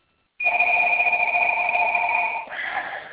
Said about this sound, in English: my phone's ringing